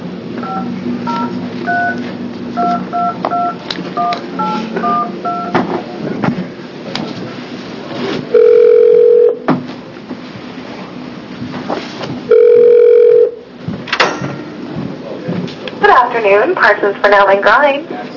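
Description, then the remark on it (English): A quick series of touch-tone dialing beeps, followed by two long, steady ringback tones separated by a pause, then a voice briefly picks up at the end over a phone line: a call to an attorney at the law firm Parsons Fennell and Grimes, placed during a state Senate committee hearing. “So we are going to call him and get him on the phone.”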